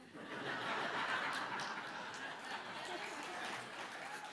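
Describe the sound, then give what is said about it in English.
An audience laughs and claps together, a steady wash of chuckling and scattered applause that holds at a fairly even level for several seconds, with no one speaking over it. “I got claps for that one.”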